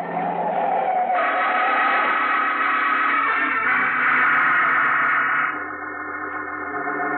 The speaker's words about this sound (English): Hey, mister, look out for that car. You're gonna get run down if you don't. Look out!